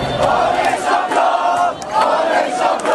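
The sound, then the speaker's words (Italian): A large crowd of Paris Saint-Germain fans in Paris roars and cheers at 9 pm, celebrating winning the Champions League final against Arsenal after extra time and penalties, a dense, sustained wall of shouting voices with rising and falling swells and occasional brief dips. “Dopo i tempi supplementari e i rigori, alle 21 il grido di gioia.”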